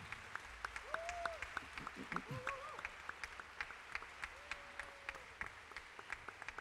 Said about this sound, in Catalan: Moltes gràcies. Un aplaudiment ben fort. Un aplaudiment.